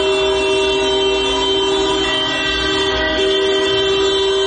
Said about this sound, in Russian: Прошла минута молчания. Затем все автомобилисты в течение нескольких минут сигнализировали в знак солидарности.